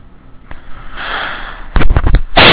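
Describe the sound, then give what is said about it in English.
A breathy sniff, then a quick cluster of loud coughs right into a microphone, boomy and slightly distorted, ending in a burst of rough noise. No one speaks. “Me coughs into Mike.”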